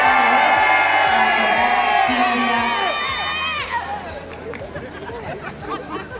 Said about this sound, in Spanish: Y el turno es ahora para la zona Occidente. Un aplauso.